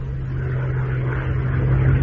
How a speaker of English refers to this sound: Back again like a bad dream. An albatross. It's a Condor Navigator. A Condor, a German plane.